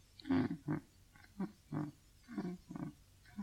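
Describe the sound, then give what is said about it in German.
Sleeping babies breathe at night in a quiet town, in a steady, snuffly rhythm, with about seven soft breaths, each a short low rasp with a slight snoring rumble. No one speaks. “Psst. Hörst du sie atmen? So atmen?”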